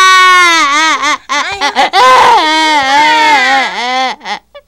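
A child wails loudly and close up, sobbing in long, wavering cries broken by short catches of breath, growing more intense before trailing off.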